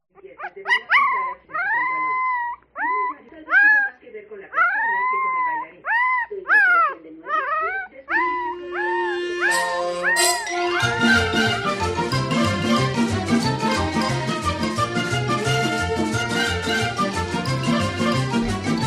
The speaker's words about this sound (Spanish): Parecía cualquier cosa, pero te aseguro que es un cachorrito, de perro.